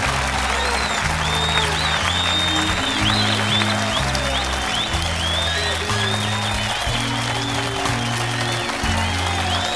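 An audience applauds steadily and loudly throughout, with scattered whistles and cheers on top, while a band's low sustained chords play underneath.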